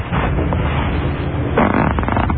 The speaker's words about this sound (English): Powerful. Look at the power of that fart. That's a powerful fart,